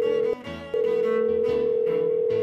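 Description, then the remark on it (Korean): A steady telephone dial tone hums loudly as someone places a call to the Heart & Seoul gospel broadcaster to give a new home address. It cuts out briefly near the start before resuming, with faint background music or clatter mixed beneath it. “지금 당장 전화해서 알려드려야겠어요.”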